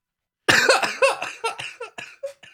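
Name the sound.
coughing fit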